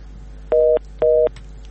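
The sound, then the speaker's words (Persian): Two short, evenly spaced beeps of a telephone line tone after a listener's call to Radio Azadi dropped, steady and clear over faint background hum. “متاسفانه که تماسشان قطع شد.”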